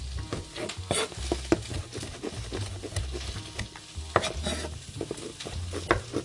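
Cabbage sizzling in a hot pan, a steady crackle with bursts of sharper popping and some stirring, low rumbling underneath and no one talking.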